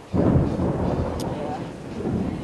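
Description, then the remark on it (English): Deep, rolling thunder rumbles continuously for a few seconds, loud and booming, as an afternoon rainstorm begins, with a faint wash of rain-like hiss underneath. “The sky starts thundering.”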